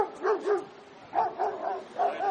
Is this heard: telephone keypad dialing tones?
no